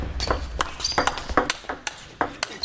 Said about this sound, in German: Der kleine weiße Ball rast in einer Wahnsinnsgeschwindigkeit über die grüne Platte von links nach rechts